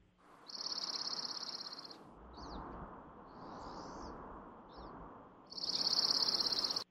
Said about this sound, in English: All right. Which one's next? The dark-eyed junco. Okay. Let me get that one up.